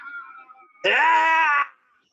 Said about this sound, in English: So here he is, and he's still screaming with this intensity. He's screaming. They're taking him out on a gurney.